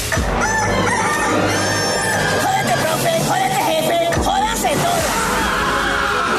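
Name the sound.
rooster crowing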